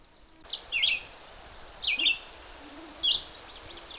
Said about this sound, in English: But purple finch, a very pretty warbly-like song.